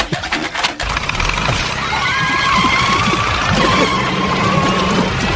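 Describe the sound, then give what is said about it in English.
A car engine cranks and catches, then keeps running loud with a rough, rattling drone and a thin whining tone riding over it; the recorder's own car, started in the morning on the way to work. “I recorded this myself out of my car this morning. This is me coming to work this morning.”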